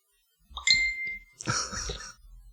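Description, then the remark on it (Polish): A phone notification chime rings out once, a bright ringing tone that fades over about a second, followed by a short, noisy rustling burst, with no one speaking. “Wyciszyć telefon! Po to go wyjęłam! I to jest właśnie pech.”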